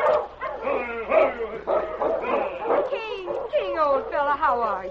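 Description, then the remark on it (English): A big silver-gray dog, running loose ahead of a dog team, barks and yips excitedly as it bounds forward to greet people, a steady, eager stream of high, wavering cries and whimpers, loud, lasting the whole stretch with no pauses. “A big silver-gray dog was running ahead of the team as loose lead. He bounded joyfully forward to meet them.”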